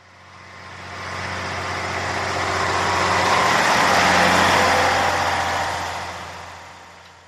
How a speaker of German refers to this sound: Autos? Lastwagen?